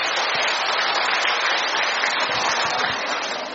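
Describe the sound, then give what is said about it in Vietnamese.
A large audience in a church claps in sustained, dense applause, a steady wash of many hands without pause, tapering slightly at the end. “Mời anh chị em giơ ra tay lên để chúng tôi cũng đón chào anh chị em một tràng pháo tay thật lớn, thưa anh chị em.”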